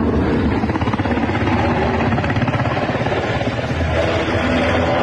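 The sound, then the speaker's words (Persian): A loud, steady rotor drone with a rapid rhythmic chop fills the whole stretch, from multiple helicopters flying overhead in the sky over Kabul on 15 August 2021, with no voices. “هلیکوپترهای متعدد در فضای کابل در حرکت هستند و گمان می رود که دیپلمات های سفارتخانه های مختلف و نیروهای خارجی را به میدان هوایی کابل منتقل می کنند.”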